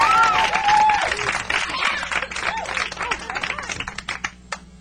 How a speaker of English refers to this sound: Thanks very much for the clap.